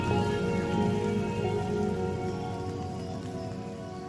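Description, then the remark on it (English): Heavy rain drums steadily on an uninsulated roof at night, a dense, continuous patter with a faint ringing resonance, loud throughout, with no voices. “And by the time I had finished restoring order and my head hit the pillow that night, the sound of the rain beating on the uninsulated roof immediately put me to sleep.”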